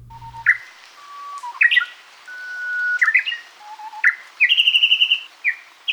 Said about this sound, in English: We have got the song of the shy Japanese bush warbler, thanks to the Mokale Library at the Cornell Laboratory of Ornithology.